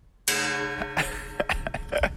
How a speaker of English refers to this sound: Gong, I remember. The gong sounds awful. The gong. May we remember what this gong sounds like?